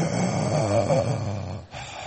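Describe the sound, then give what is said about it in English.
A voice imitates heavy, mechanical respirator breathing: one long, rasping breath, followed by a brief pause and the start of another. “I don't know if I should practice my deep breathing right now.”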